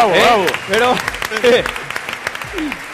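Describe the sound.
A burst of audience applause, a steady patter of many hands clapping mixed with loud voices whooping and cheering, fading somewhat toward the end.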